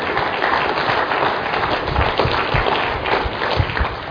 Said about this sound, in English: You guys can clap him for his service. Thank you.